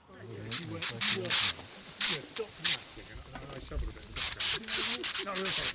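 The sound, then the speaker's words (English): Repeated bursts of hissing spray, roughly a dozen short and longer blasts, as a man sprays water onto a roughly metre-wide excavated soil section to clean the surface, talking underneath throughout. “What we're doing is I'm spraying it with water just now, because as soon as we're scraping it back to clean the surface for photographs and planning”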